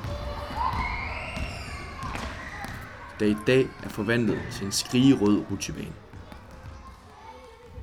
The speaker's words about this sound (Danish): Når man slår dørene op, hører man straks bolde af enhver slags hoppe på det blanke halvgulv. De urytmiske lyde overdøves indimellem af et råb fra fangelejen på den farverige forhindringsbane.